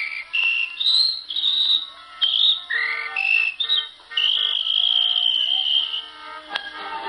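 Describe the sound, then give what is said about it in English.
A policeman blows his whistle: shrill, high whistle tones sound in a string of bursts that shift in pitch, ending in one long sustained blast, with softer lower tones humming underneath and no talking. “And was he surprised when he blew his whistle?”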